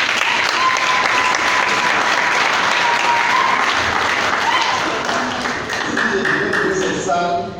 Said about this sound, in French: Monsieur le ministre, merci. Je vous demande d'applaudir le ministre.